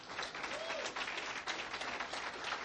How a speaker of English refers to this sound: Give them a hand clap, please.